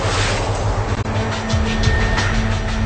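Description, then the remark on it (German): A heavy ship's diesel engine deep below deck in the ship's hull drones steadily and loudly, with a constant low rumble and a faint whining hum layered over its continuous mechanical roar. Arm-thick pipes feed it the diesel fuel it burns. “Tief unten im Schiffsbauch liegt der Motor.”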